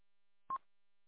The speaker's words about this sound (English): The phone's plugged in, buzzing on my bench.